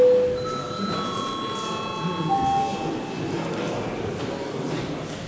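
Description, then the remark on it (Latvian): A bell in the chamber of the Latvian parliament (Saeima) rings at the start of a break, calling deputies to register their presence, with steady, overlapping tones for a couple of seconds, then fades, leaving low background murmur and shuffling. “Tādā gadījumā laiks pārtraukumam, lūdzu zvanu, lūdzu deputātu klātbūtnes reģistrācijas režīmu.”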